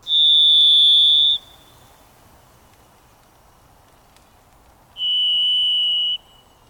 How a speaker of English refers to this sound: Listen carefully to hear the overtones that turn the single sound of a varied thrush into a delicate minor chord.